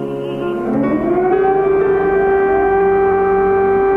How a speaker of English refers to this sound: I'm scared because in the night, a lot of times, they have this sirens. Air raid sirens that send her parents and other Ukrainians scrambling into shelters as bombs and guns ravage the country.